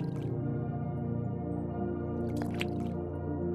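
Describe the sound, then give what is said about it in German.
Gentle water lapping and dripping from paddle strokes as the boat glides smoothly over the water surface, with a few brief splashy bursts toward the end over a steady, low background drone. “Nur ein leises Plätschern begleitet uns auf der Fahrt.”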